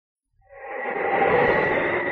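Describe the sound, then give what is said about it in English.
A howling wind sound effect from the 1950 radio drama Challenge of the Yukon, evoking winds across the snow-covered wild Northwest, rises from silence into a steady, loud rush of air with a moaning, whistling tone, sustained to the end with no voices. “Now, as howling winds echo across the snow-covered reaches of the wild Northwest,”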